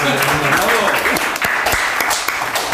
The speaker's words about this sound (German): Großen Applaus